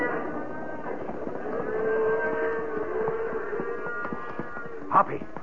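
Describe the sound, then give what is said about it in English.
Cattle low in a steady, drawn-out chorus, with one long moo swelling in the middle over a busy herd rumble, and a brief sharp knock just before the end. “Nothing will stop these critters now. Right. Let's clear off the edge of the herd.”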